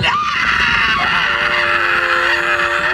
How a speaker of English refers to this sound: Have you been woken up by a scream like this?